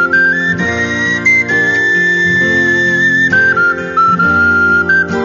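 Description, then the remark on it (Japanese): A soft, breathy wind melody of ocarina and recorder carries a slow tune over steady harmonic accompaniment, held notes gliding between pitches at a moderate, even loudness with no voices. “この楽曲を聴けば、なぜか懐かしさを感じる、そんな雰囲気の音楽、それはオカリナとリコーダーが醸し出しているのです。”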